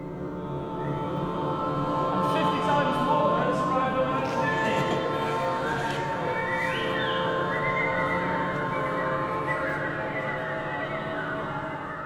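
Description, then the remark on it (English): A gentle, calm orchestral chord, recorded during the Inspire Day open workshop at the BBC's Maida Vale studios, holds steadily for the whole stretch, rich in layered tones at an even, quiet-to-moderate level, with a few faint high chirps flickering above it early on. “Birds disappear for a second, but the chord keeps going.”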